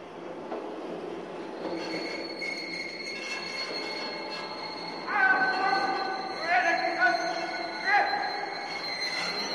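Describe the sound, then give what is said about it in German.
An imperial court train rolls slowly into Potsdamer Bahnhof in Berlin with a steady rumble, its wheels and brakes letting out high, shrill squeals that grow louder and come in several bursts toward the end. “Als der kaiserliche Hofzug einfährt”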